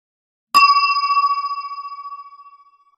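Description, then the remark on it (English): A single bright page-turn chime in a read-along book strikes once and rings out clearly, signalling to turn the page, its clean tone shimmering and slowly fading over a couple of seconds with no voices around it. “When you hear this sound, it means you have to turn the page.”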